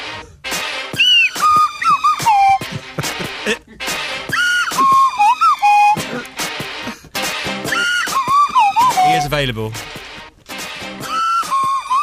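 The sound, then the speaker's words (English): A swanee slide whistle is played, swooping up and down in loud, wobbly glides, with a long descending slide near the end. A man speaks briefly over it. “Playing the swanny whistle.”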